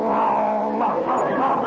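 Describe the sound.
A man down on all fours imitates a dog's growl, a loud, sustained rumbling snarl that holds steady for nearly two seconds with a slight rise partway through.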